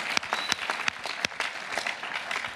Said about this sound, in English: Yeah, come on, let's give the Lord a huge round of applause.